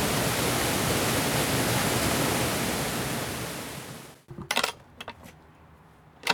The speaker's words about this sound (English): So this is the mill. And you can hear the water flowing through the building.